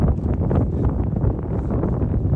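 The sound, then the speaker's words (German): Wind rushes steadily through fir trees in the mountains, a continuous broad whoosh with a heavy low rumble and slight gusty swells, fairly loud, with no voices. “Hört ihr den Wind in den Tannen?”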